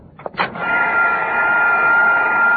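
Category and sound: household object, vacuum cleaner running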